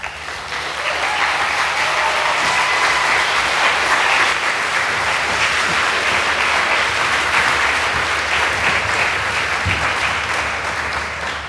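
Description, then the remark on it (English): Sustained applause from a crowd introducing the speakers of a talk called Resisting Surveillance, a dense steady wash of clapping that holds at an even, loud level for about eleven seconds with no voices over it. “Please, an applause.”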